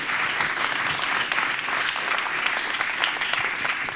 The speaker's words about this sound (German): Und deswegen einen herzlichen Applaus für unseren Speaker, für den Talk zu RFID und NFC.